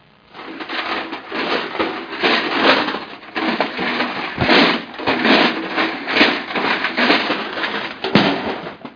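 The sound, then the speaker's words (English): Junk comes crashing and tumbling out of a packed closet as its door is opened during a search for a card in a raincoat, a long, dense clatter of bangs, thumps and rattles that keeps going for several seconds without letting up. “Oh no! Not the whole closet door!”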